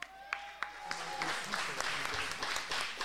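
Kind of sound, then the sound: crowd, audience applauding and cheering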